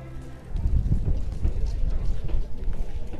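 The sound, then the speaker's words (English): A horse in a stable at the Archeon Open Air Museum, eating hay from a manger on a cold day: low thuds and shuffling movements over a steady rustle, with a breathy, wind-like rumble underneath throughout. “The horse is here in the stables of the Archeon Open Air Museum.”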